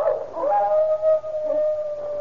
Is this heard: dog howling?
yes